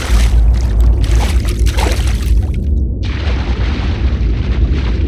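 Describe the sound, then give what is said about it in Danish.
A person dives down head first: a loud splash of plunging into water with sand and seaweed in it, then a steady muffled underwater roar with deep rumbling and bubbly rushing that continues without any voices. “Og så dykker jeg ned.”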